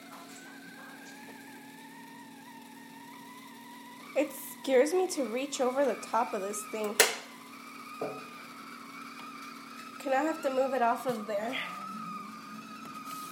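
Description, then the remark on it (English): A kettle whistles steadily as the water boils, a sustained high tone for the whole stretch with a fainter higher overtone, while a person talks over it in two short bursts. “So then, wait till it whistles.”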